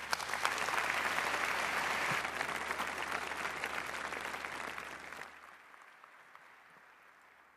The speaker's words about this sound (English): So please give them a warm round of applause.